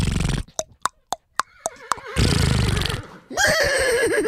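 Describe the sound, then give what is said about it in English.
A person imitates a horse neigh with their voice: a burst of breathy noise, a quick series of sharp clicking pulses, then a wavering whinny-like call ending in a rough, harmonic outburst, fairly loud. “It's a pretty good horse, right?”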